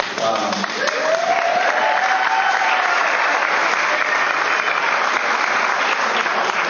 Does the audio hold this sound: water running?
no